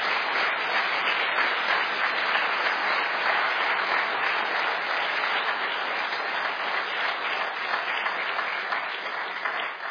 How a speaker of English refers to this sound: You guys have all heard from our wonderful speakers and musicians, but there's people behind the scenes that you haven't seen doing all kinds of stuff. AV, parking, tables, registration. And so let's just give those folks a round of applause.